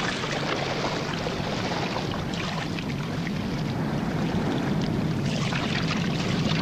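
Van Weyden rows a boat through water with oars after casting off from the schooner. Steady sloshing and splashing runs continuously without pause, and no one speaks.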